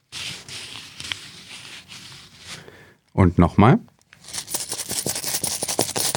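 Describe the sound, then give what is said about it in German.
Crisp rustling of banknotes being handled, a short spoken phrase, then a dense run of small metallic clinks and jingles as coins are sifted, fairly loud. “Ja, Sie haben es natürlich längst erkannt. Geldscheine und Münzen waren das.”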